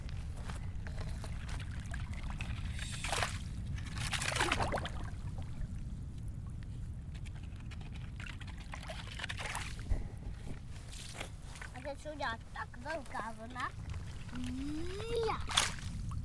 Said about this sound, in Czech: Hluboká laguna. Jedna. Teď. Dělají se pomalu vlny. Pomalu se dělají velký vlny.